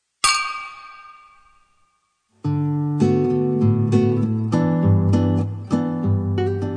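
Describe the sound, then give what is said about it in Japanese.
A single bright clink of drinking glasses touching in a toast, ringing clearly and fading over a couple of seconds before loud music begins. “いや、じゃあ乾杯しましょうか。”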